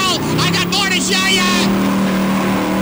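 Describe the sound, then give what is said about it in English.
A car engine roars loudly and steadily as the car drives away, its pitch rising before settling into a sustained drone. It may be a voice imitating the engine. “I watched as she roared away, retching out the window.”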